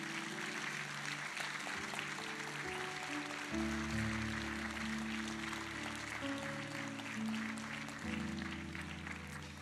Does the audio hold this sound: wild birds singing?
no